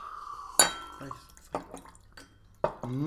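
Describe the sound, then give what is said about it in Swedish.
Water is added to a glass of whisky: a sharp glassy clink, then a few soft drips and splashes, ending in a short trickle whose pitch rises as the glass fills. “Däremot kan man ju ha lite vatten i.”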